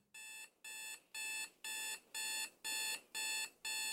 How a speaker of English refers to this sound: The alarm went off at 4 a.m. on a Tuesday.